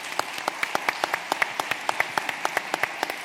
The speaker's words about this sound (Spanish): Llega tarde a los sitios para que, por favor, le demos un gran aplauso.